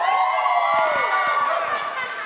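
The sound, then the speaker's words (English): A youth group screams and yells together in one loud, sustained burst of cheering that carries steadily for a couple of seconds. “I heard these great things of screaming and yelling.”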